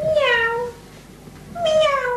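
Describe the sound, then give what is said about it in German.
A cat meows twice, each call a drawn-out, tonal cry with a rising-then-falling pitch, separated by a brief pause. The meows are fairly loud, with no talking. “Das ist eine Katze.”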